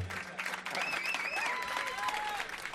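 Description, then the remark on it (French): A crowd, apparently standing, applauds steadily and densely for a few seconds, with a few high whistles and cheers rising over the continuous clapping. “Et ça rend presque nostalgique d'entendre des applaudissements de gens qui ont l'air debout.”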